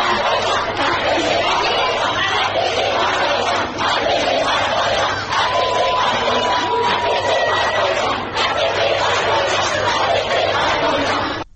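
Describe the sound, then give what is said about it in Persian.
A crowd of schoolgirls shouts the slogan "Death to the Basiji" in unison, stopping a speaker who was lecturing them on wearing the hijab. The shouting is loud and continuous, with high voices rising and falling in rhythmic bursts that fill the whole stretch without pause. “اما دختران دانش آموز و فریاد و شعار مرگ بر بسیجی مانع از ادامه سخنرانیش میشن.”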